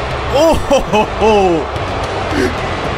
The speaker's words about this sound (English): And again, we've said before here on the show, WWE edits the crowd noise before they post the shows out. So if it's that loud, and there, they could not drown these boos out.